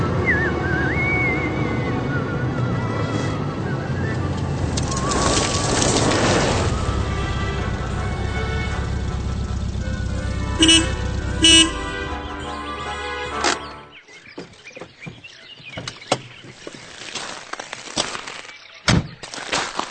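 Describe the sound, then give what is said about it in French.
A car arrives in the countryside, its engine rumbling loudly and steadily before cutting out, followed by a scattering of sharp thumps and knocks like doors closing. “Pardonnez-moi, professeur, mais il est tout à fait évident que nous entendons là une voiture et que quelqu'un arrive à la campagne.”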